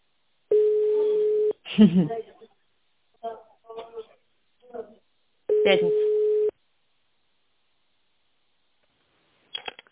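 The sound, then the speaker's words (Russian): A telephone ringback tone on a call to the company Modular sounds twice, each a steady, mid-pitched one-second beep, with a recorded greeting speaking in short bursts in the gap between them and a brief click at the end. “Если вы знаете внутренний номер сотрудника, наберите его в автональном режиме или дождитесь гудка.”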